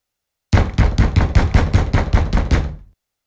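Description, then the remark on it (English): A boy's fist pounds on his parents' upstairs room door in a fast, steady burst of about ten heavy, booming thuds, loud, with no voices. “Quickly, Ben runs upstairs to his parents' room and bangs on the door.”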